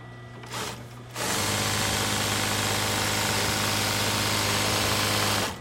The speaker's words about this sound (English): The sewing room at New England Flag and Banner is humming with activity. It's been that way for a while now.